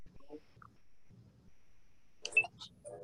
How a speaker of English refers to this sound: Grabbing a piece of paper.